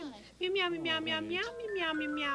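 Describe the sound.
A person's voice imitates a cat meowing, drawing out a few clear meows in a sliding, sing-song pitch that rises and falls over a couple of seconds.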